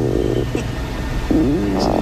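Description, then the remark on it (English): A low, bubbly stomach rumble that sounds like farting but is not gas: two gurgling bursts with wavering, sliding tones over a steady low drone, fairly loud and with no talking. “It's not gas. It's just my stomach. But it sounds like I'm farting.”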